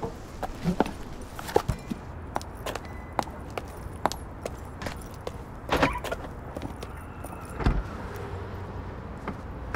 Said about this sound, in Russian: Я уже села, завела машину, еду. Скоро буду.